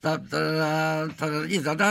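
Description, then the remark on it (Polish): A man hums the signal jingle of the Opole Festival, a short melodic tune with a sustained steady note followed by a few quicker rising and falling tones, loud and clear with no accompaniment. “Panie doktorze, czy pamięta pan sygnał Festiwalu Opolskiego? On podobny jest do Sapolskiego, także trudno nie pamiętać. Zanuci pan?”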